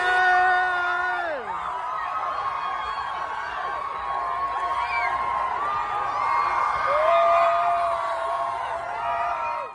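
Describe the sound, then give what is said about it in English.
A large crowd at an impromptu street dance party on Santa Monica Boulevard in West Hollywood cheers and screams continuously, with high whoops and yells layered over a dense roar of voices, loud and sustained throughout. “So we went out to West Hollywood, Santa Monica Boulevard, and there was an impromptu dance party happening. And we just drove through for a little bit and celebrated with the crowd.”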